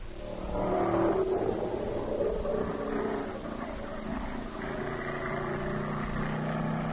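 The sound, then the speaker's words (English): Loud, steady roar of stock car racing engines, a sound effect for the West Peabody Speedway, with rising and falling whines as motors rev and pass, a continuous dense drone filling the whole clip with no talking. “Do we have any sound effects for the West Peabody Speedway?”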